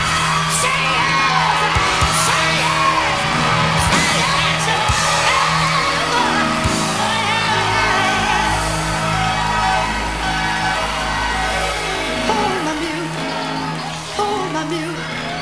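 A church crowd erupts in ecstatic shouting and whooping, a dense, loud wall of overlapping cries and yells sustained throughout, with occasional sharp bangs and exclamations rising above the din.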